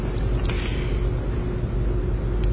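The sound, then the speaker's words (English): A steady, heavy engine rumble from a small white truck, like a U-Haul but a little bigger, going by outside, holding at a constant loudness rather than swelling and fading, with a faint hum running underneath and no voices. “Does anyone ever seen this truck go by? It's a white truck. It's a kind of a small one, like a U-Haul, but it's a little bigger.”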